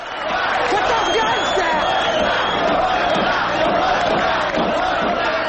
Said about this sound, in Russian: Толпа вокруг банка приветствует его.